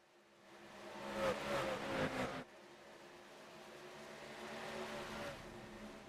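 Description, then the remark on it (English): Race car engines roar past in a loud pass with a falling pitch, then settle into a steadier drone that swells again as more cars approach. The sound comes from a static trackside camera during a race at Auto Club. No one speaks. “We're going to put it in the static cam and just go crank it up for a little bit.”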